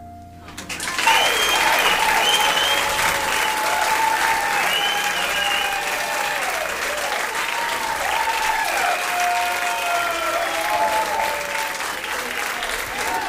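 Sustained applause from a large audience, dense and steady from start to finish, with a few whistles and cheers cutting through the clapping.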